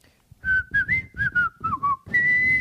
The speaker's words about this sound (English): Let's hear your best whistle.